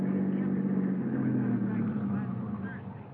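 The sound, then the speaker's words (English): A car engine hums steadily as the vehicle rolls slowly, winding up the driveway to the DeSalle mansion overlooking the ocean at 7:30, a low continuous drone, moderately loud, easing off slightly at the end. “By 7:30, we were winding up the driveway to the DeSalle mansion overlooking the ocean.”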